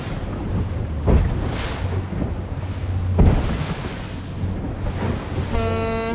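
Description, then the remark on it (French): A boat's motor drones steadily at sea, just out of the port of Cap-Breton above the underwater canyon (gouffre), under heavy gusting wind buffeting the microphone, with water sloshing around; a high tonal whine rises near the end. “Donc, j'ai coupé le moteur parce qu'on est déjà à peine sorti du port de Cap-Breton, on est déjà au-dessus du gouffre.”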